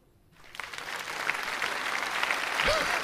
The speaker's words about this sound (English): That's polite applause. There's a lot of politeness going on.